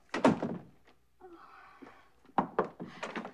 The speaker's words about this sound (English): Grinning, Selena closes the door.